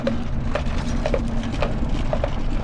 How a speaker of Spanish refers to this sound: Aquel rudimentario vehículo avanzaba lento para no sacudir mucho el cuerpo. A veces solo era el sonido de sus ruedas de madera y los cascos de los caballos